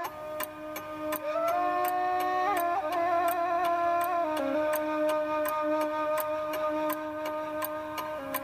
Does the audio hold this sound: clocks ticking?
yes